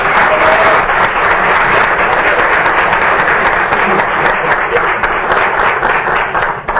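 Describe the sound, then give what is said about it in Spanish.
An audience at an event in Mexico applauds steadily, a dense, loud wash of many hands clapping that holds evenly for several seconds, with no voices standing out. “Para toda la Unión, un aplauso para ellos, por favor.”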